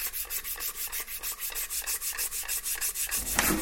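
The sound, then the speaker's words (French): Rhythmic sanding on a model airplane wing that is being rebuilt: quick, even back-and-forth rasping strokes, about five per second, a steady bright scratchy hiss with no voices. “Là, je suis en train de refabriquer l'aile, en fait, de l'avion.”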